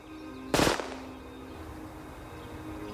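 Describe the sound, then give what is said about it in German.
A loud, sharp gunshot blast from a modified gun fired from the 15-yard line at an outdoor shooting range during a competition: the gun doubles, two shots fired so quickly they blur into one burst, the second going off during recoil, followed by a fading ringing tail, with no talking. “Im Bruchteil einer Sekunde doppelt die Waffe und ein zweiter Schuss löst sich unbemerkt während des Rückstoßes.”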